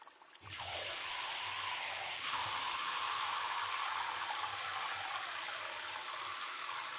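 A shower sprays steadily, rinsing everything off, a continuous hissing rush of water that starts abruptly after a brief silence and keeps going without pause, with no voices.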